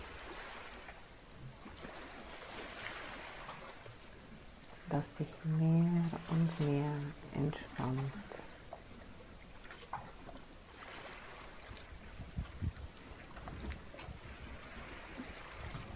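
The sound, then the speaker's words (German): Ocean waves wash steadily onto the shore in a continuous broad rush that swells and ebbs, while a calm voice speaks briefly over them midway through. “Und höre den Rauschen des Meeres.”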